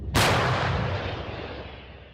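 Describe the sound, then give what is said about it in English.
A single massive blast from a 155 mm German mobile howitzer fired by artillery soldiers near Bakhmut at Russian supply and artillery positions. A sharp booming report rolls into a long, slowly fading rumble, with no voices. “Soldiers with the 26th Artillery Brigade maneuver this 155 caliber German howitzer to its firing position.”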